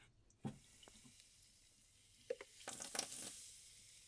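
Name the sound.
carbonated water fizzing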